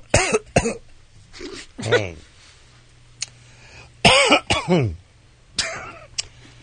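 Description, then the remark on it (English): A person coughs repeatedly in harsh bursts after drinking water: a few quick coughs, then a heavier cluster with throat clearing, ending in a couple of lighter coughs. “Oh, I just drank this water. It made me cough.”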